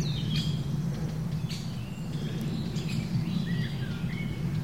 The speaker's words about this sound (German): Jetzt hören wir gerade den Kleiber sehr laut mit seinem chip chip chip